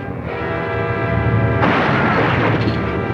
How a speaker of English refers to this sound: Richard releases the car's brake, and all three push the car over the cliff. Right. It rolls over twice in midair before smashing against the cliffside.